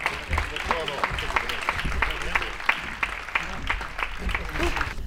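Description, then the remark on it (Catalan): An audience at an event in Roda de Barà applauds two guests, one of them the music director of the Escola de Música de Roda de Barà: a steady, dense wash of clapping at an even level, with a few sharper individual claps standing out and faint voices mixed in. “Vinga, un altre aplaudiment per ells, que s'ho mereixen.”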